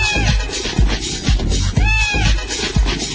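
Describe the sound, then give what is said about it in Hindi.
A cat meows a couple of times, its rising and falling cries standing out over a steady, rhythmic musical backing with thumping low beats. “बिल्ली मौसी आ जाएगी, छत से मुझको खा जाएगी.”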